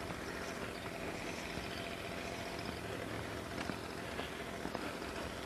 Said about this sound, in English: Leaf blowers.